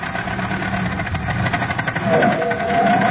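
An old jalopy car engine runs steadily with a rough, throbbing idle and rattling vibration as the car is driven, growing slightly louder toward the end as it revs.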